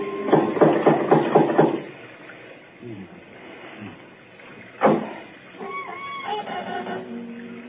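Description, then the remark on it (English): A door knocker raps a quick, loud series of about eight metallic knocks, followed by quiet, a single sharp thud, and then a person speaking. “There might at least be a knocker. Ah, got it.”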